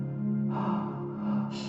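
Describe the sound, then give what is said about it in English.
Deep, audible breaths during guided breathwork, one drawn-out and another starting near the end, over a steady low droning tone in the background, with no talking. “Keep breathing.”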